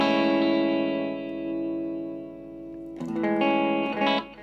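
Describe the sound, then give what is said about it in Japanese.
An electric guitar played live through a delay effect rings out a chord that slowly fades, then a fresh strum enters around three seconds with echoing repeats trailing behind it. No one speaks. “こう普通にこうやって弾いてたらちょっと寂しいので、それにディレイをですね入れましてですね”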